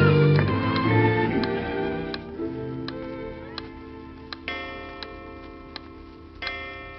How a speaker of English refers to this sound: Do you know what that clock is saying? Jackson, Jackson, Jackson.